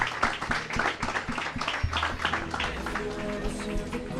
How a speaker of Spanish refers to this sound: De acuerdo, pues les despedimos con un fuerte aplauso y continuamos en Despierta UMH.